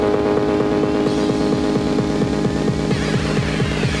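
A metro train's doors close and it pulls away toward Khreshchatyk station, its motor giving a loud, steady harmonic hum over a fast, regular throbbing pulse, with a thin whine rising toward the end. No voices.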